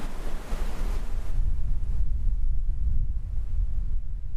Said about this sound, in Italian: Bene, a un certo punto queste aste erano pronte, questi triangoli qua erano pronti, e si muove il vento.